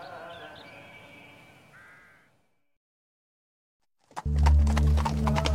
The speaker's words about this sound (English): A carriage drawn by 2 white horses. In 1891, Abdul Karim set out for the short drive from Windsor to the sleepy village of Woking.